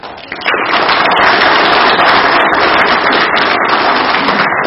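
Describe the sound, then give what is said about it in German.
A church audience breaks into applause for the children after their contribution to the sermon, quickly swelling to a dense, loud crackle of many hands clapping that holds steady for several seconds, with no voices heard. “Das war richtig toll und verdient einen kleinen Applaus.”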